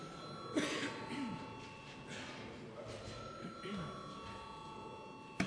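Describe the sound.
A parliament voting bell rings continuously, a steady, buzzing electric tone holding for several seconds, rung as deputies call for a vote on a bill, while quiet murmuring voices and an occasional cough sound underneath.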